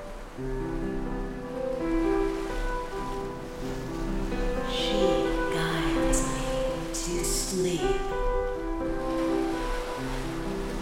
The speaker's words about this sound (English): She takes us all on a very special journey if we let her do it through the sounds of her waves. Oh, come ashore.